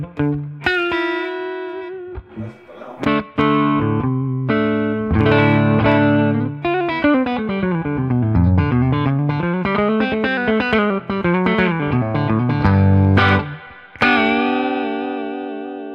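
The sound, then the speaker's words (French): An electric guitar plays through a simple amp with vibrato and tremolo set to zero: struck chords and single notes, then sliding, bending lines, slightly gritty and fairly loud, with no voices. “Si on fait genre 0 vibrato, 0 trémolo, qu'est-ce qui se passe?”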